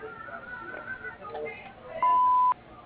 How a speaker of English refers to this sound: Hello, you reached Stone Landscaping Incorporated. We're unable to get to the phone right now, but if you leave your name, phone number, and a brief message after the beep, we'll get back to you as soon as possible.